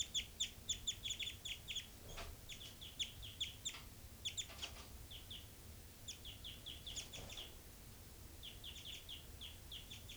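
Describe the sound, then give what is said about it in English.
Short, high-pitched night flight calls from two birds, repeated in quick clusters with brief pauses between bursts, over a steady low rumble in the background. “Night flight calls.”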